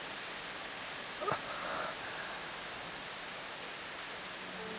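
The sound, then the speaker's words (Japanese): Heavy rain pours down steadily in a dense, hissing wash, with a brief louder splash or thud partway through. No one speaks. “すんげえ雨だな。”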